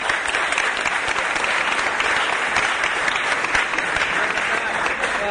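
A crowd applauds steadily and loudly for several seconds, a dense continuous patter of many hands clapping close by with no pause.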